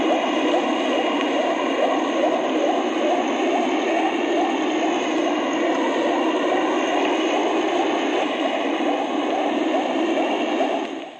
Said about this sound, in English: As the propellers turn rapidly, they create small, momentary cavities in the water. This effect is called cavitation. When the water rushes back into the cavities, it produces the sounds recognized as propeller beats.